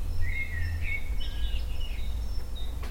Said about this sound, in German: Es gibt noch das Geräusch Amsel 1.